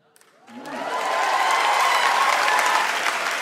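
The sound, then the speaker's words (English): An audience breaks into applause, swelling quickly from silence into sustained, dense clapping with a few cheers mixed in, loud, continuing steadily to the end. “So first of all, I'm very curious whether the applause is for the non-hormonal or for the men.”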